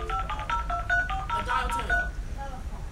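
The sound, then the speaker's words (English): A dial-up internet modem starts connecting, with a quick run of clear, evenly spaced touch-tone dialing beeps, moderately loud over a low steady hum, then a few softer tones trailing off. “Dial-up internet.”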